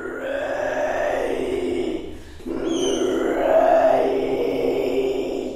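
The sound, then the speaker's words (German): Eerie guttural growling from a woman performer rising from the audience at the Biennale: a sustained low rasping snarl that breaks off briefly, then resumes louder and rougher with a rising, strained edge. “Ihre unheimlichen, knurrenden Kehlgeräusche verschlagen einem die Sprache.”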